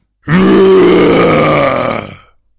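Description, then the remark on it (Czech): A deafening bear roar bursts out suddenly right behind a man creeping with a loaded gun toward a small cave, holding for about two seconds, a rough, low-pitched growl with a rich, raspy tone that fades at the end. No one speaks. “Ale najednou se těsně za ním ozval ohlušující řev.”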